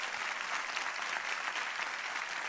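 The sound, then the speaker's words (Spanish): Steady, dense applause from a large crowd, a continuous wash of clapping that stays even in loudness throughout, with no voices standing out. “Y si ese es el aplauso, dáselo mejor a tu Padre.”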